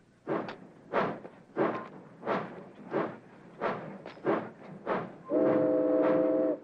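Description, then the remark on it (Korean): A steam freight train, No. 19, pulls away heading for Portland, its locomotive chuffing in loud, steady bursts that quicken slightly, then a long, sustained whistle blows near the end. “셰크의 화물열차 19호는 포틀란드를 향해 다시 출발하고”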